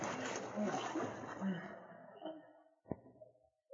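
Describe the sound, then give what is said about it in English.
Long, powerful canoe paddle strokes churn and splash through water as the canoe is driven toward a swimming man, a dense watery wash that gradually fades, followed by a single sharp knock of the paddle near the end. “It was Sergeant Preston in the canoe, and he drove the canoe toward the swimming man with long, powerful strokes.”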